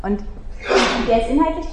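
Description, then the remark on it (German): A short, sharp sneeze bursts out as a broad, hissy blast partway through, while a man keeps talking in a steady voice before and after it. “Gesundheit.”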